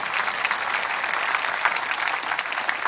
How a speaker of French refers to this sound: Je vais applaudir avec moi et dire, c'est pour toi aussi.